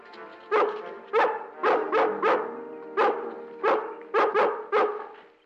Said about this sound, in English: I'll get the law on you for sicking that dog on me. Nobody sicked her on you, Amos. Lassie wouldn't attack anybody without provocation.